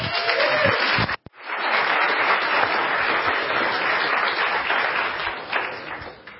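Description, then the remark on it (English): A crowd bursts into sustained applause for a speaker coming to the stage, dense and loud clapping that holds steady for several seconds, with a brief cut near the start before it resumes and slowly tapers. “This man is about to bring some fire to the stage. Give it up for”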